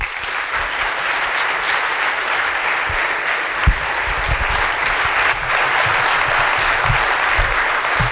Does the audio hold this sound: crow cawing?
no